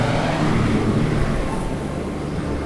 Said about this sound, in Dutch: De trekker komt voorbij.